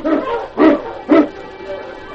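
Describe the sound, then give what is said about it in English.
A team of husky sled dogs, led by King, barks three times in quick succession, loud, sharp and fairly high-pitched, with a softer yip trailing after the last bark, as they are urged on to pull a sled over a frozen, snowy trail. “On King! On you Huskies!”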